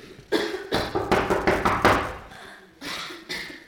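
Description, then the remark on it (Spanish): A sick girl coughs in a harsh, rapid fit of about half a dozen hacking bursts, fairly loud, then a short pause before two more coughs. No talking. “Ella sabe mucho de las hierbas que hay en el bosque y conoce algunas que le pueden ayudar para que mejore de esa tos que no se ve nada bien.”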